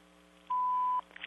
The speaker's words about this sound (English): if you need to leave a message, please do so after the beep.